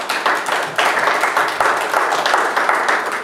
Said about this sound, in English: Give me a hand of applause.